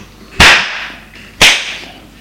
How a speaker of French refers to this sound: Le père, arrivé vers son fils, le gifle.